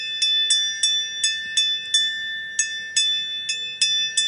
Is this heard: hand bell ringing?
yes